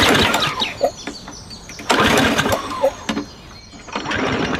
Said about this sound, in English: And isn't that a two-stage 357cc motor with a 5-quart fuel tank? Sure. The Outdoor Vac Mark III can pick up nearly anything, from piles of leaves to piles of heavy mud that's dominantly clay to small dogs. Here, I'll start it up.